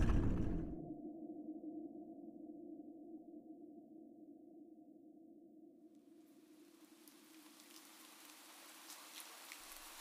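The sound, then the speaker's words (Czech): A low, steady droning hum fills the space. About halfway through, a soft patter of drops falling from the ceiling inside a house joins it, like light rain pattering down. “Ono prší? Tady v domě? Lavko, to jsou slzy. Ze stropu padají slzy.”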